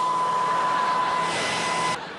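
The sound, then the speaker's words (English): A clothes dryer runs with a loud, steady whirring rumble and a faint constant whine, then cuts off abruptly near the end, leaving a quieter hiss. “kill the dryer!”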